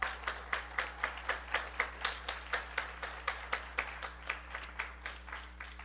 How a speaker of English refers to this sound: So thank you very much, prayer team, and to all of the people who supplied or donated snacks, supplies, decorations. We appreciate all of that. We could not have done it without all those people. Big round of applause for all those people.